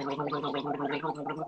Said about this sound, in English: I don't think you could hear the swishing, so I had to gargle it. Yeah. The swishing was very faint. Mm-hmm. Yeah. Had to come in with a nice mean gargle.